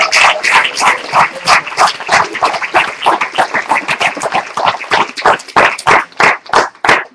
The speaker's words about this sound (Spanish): Dar un aplauso a Cristo por esto. Gloria a Dios.